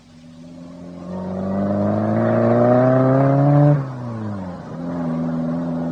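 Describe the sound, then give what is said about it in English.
A car engine starts up and pulls away to drive someone home, its loud hum rising steadily in pitch, dipping briefly at a gear change, then settling into a steady drone. No one speaks. “My car's outside. Let me drive you home.”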